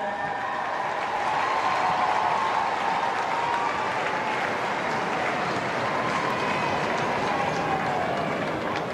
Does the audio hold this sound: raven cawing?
no